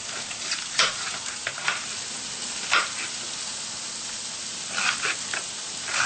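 Chopped onions sizzle steadily in a hot frying pan, a continuous crackling hiss with occasional louder pops and spits. Nobody speaks.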